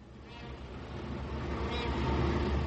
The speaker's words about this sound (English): We are in Calcutta. As the overloaded trams and buses grind and honk in the street outside, we visit the All India Institute for Hygiene and Public Health.